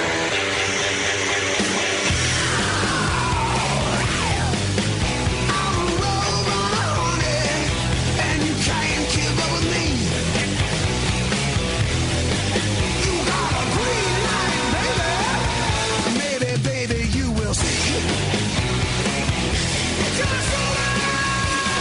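Loud, dense rock music plays throughout, with a singer's raw, screamed "yeah" ringing out over distorted guitars and pounding drums at full volume.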